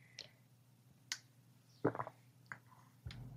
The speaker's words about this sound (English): As I take a drink of water.